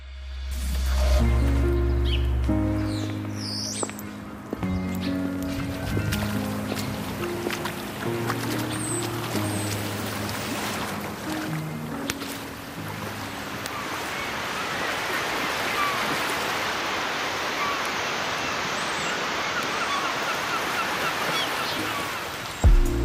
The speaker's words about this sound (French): Le clapotis des vagues et les mouettes. Hein, c'est zen, on se croirait dans un film de je sais pas qui.